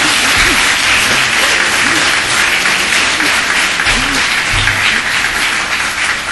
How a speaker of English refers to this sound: Go ahead, you can clap.